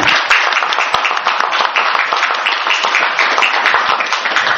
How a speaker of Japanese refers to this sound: 彼らの働きを覚えてですね、ここで感謝の拍手を捧げたいと思いますので、よろしくお願いします。